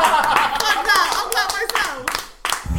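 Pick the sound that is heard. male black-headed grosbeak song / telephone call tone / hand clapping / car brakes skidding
hand clapping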